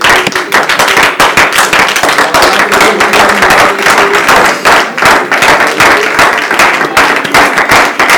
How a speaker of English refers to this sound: Praise God. Why don't you give the Lord a hand clap of praise this morning?